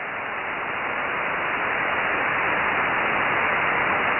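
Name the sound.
radio static noise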